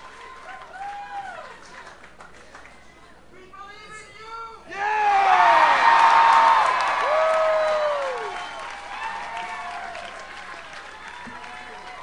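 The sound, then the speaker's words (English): A large crowd cheers and applauds at Senator Edwards's rally celebrating his win in South Carolina. The sound builds to a loud roar of clapping and shouting midway before easing back to a steady din of voices and scattered claps. “We're hearing a lot of crowd and not very much of Senator Edwards at this moment.”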